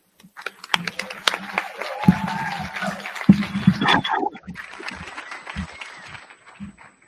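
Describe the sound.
Audience applause in Texas and Mexico welcoming the first speaker of an event: many hands clapping in a dense, steady patter that holds for several seconds, with scattered voices and cheers mixed in before it gradually thins out.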